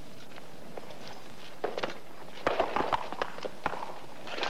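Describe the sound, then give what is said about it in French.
Horse hooves clip-clop in an uneven, shuffling pattern of sharp knocks, fairly soft, with no voices over them. “Tu es un grand mal appris, seigneur Bussy d'Amboise, de nous parler ainsi à cheval quand nous t'écoutons à pied.”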